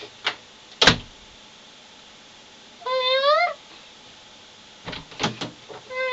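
A wardrobe door opens with a short, squeaky hinge creak between sharp knocks, followed by clattering rummaging through clothes and hangers for something to put on, fairly quiet, with no voices.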